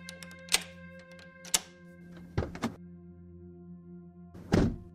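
Someone fumbles with the metal gate mechanism at a graveyard exit: about five irregular clanks and rattling thunks, the last one longer, over a steady low droning hum with no talking.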